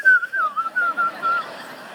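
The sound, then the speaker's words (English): A person whistles a short, wavering tune of several quick notes, clear, with a breathy, slightly unsteady pitch and no talking. “You know when you get nervous, you whistle?”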